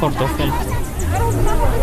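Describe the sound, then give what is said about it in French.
Steady crowd babble: many overlapping voices chattering at once, a dense, unbroken hubbub with no single speaker standing out, holding at a fairly loud, even level throughout. “Sortie de la foule, une femme nous interpelle.”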